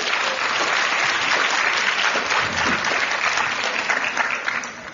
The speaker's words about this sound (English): So round of applause.